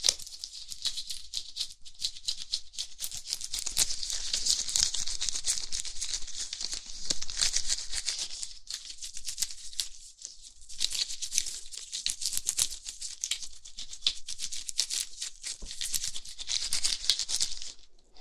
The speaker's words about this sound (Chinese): OK，然后接下来是帮你把全身的毛发剃干净，剃毛。这里没有剃须刀，就用手术刀来帮你刮吧。